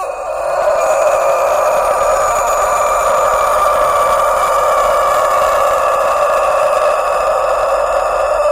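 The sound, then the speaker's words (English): A Sanjak Long Crower rooster lets out one long, unbroken crow, a loud sustained harmonic call held steadily for about eight seconds, with no talking. “This breed of rooster is called the Sanjak Long Crower. Their crows typically last from 10 to 20 seconds.”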